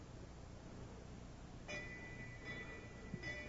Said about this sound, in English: Would you, Jeremy, ring that bell?